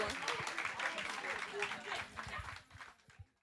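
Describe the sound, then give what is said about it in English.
Audience applause rising right after a song performed by a group of women singers, a dense wash of many hands clapping with crowd voices mixed in, steady for a few seconds before tapering off near the end. “Let's clap for them again, too.”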